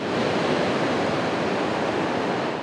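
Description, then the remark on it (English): A steady, dense roar of surf washing onto a beach along the Tijuana coastline in Mexico, on the Pacific Ocean, loud with no distinct breaks between waves, like continuous rushing water. No voices are audible. “The sound of crashing waves and children playing along the Tijuana coastline looks like a normal day at the beach.”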